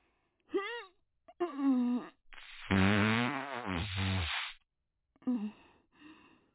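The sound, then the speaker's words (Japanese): A long, loud, buzzing fart rumbles for about two seconds, let out while squatting with legs apart and straining, preceded by short vocal strains and followed by a brief murmur from a voice. “そりゃ踏ん張った方がおなら出るし、こうやって出すって分かってた方が嗅ぎやすいでしょ。”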